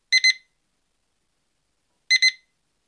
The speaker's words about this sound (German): Blöd, wenn der Wecker einen dann um 6.30 Uhr zur ersten Stunde aus dem Tiefschlaf reißt.